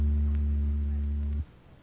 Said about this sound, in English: That was an electric oscillator you just heard, making the molecules reverse themselves about 80 times per second.